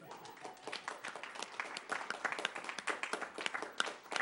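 A crowd breaks into a round of applause, many hands clapping in a dense, steady patter that holds at moderate loudness for several seconds without any talking.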